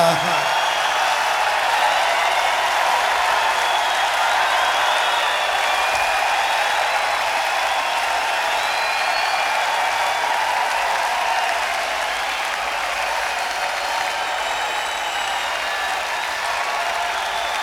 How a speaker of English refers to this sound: This old place is closing up. And so let's give this old place a big round of applause, because it's done us all a real good. Big round for Brooklyn and happy fucking New Year.